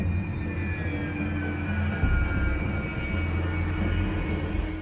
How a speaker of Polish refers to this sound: Wojskowy samolot Il-76 podejmuje drugą próbę lądowania. Bez skutku.